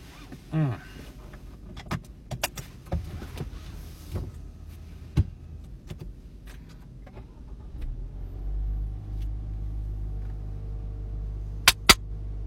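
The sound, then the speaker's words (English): Scattered clicks and clunks of a car being readied, then a steady low engine rumble sets in as the car drives, with two sharp clicks near the end. “All right, let's drive a car.”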